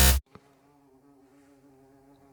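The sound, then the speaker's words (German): A bumblebee drones steadily as it flies around inside a studio, its low, harmonic-rich buzz wavering slightly in pitch as it hovers, after a brief loud thump at the start. “Wir haben eine Hummel im Studio, meine Damen und Herren. Man hört sie.”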